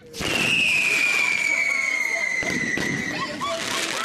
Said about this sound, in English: Fireworks will be popping in more than 30 different shows across North Texas over the next few days.